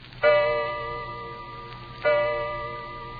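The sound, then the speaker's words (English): An old grandfather clock in a hall strikes the hour twice, about two seconds apart. Each deep, resonant chime rings out and hums away slowly, with no one speaking. “You hear the old grandfather clock in the hall strike the hour.”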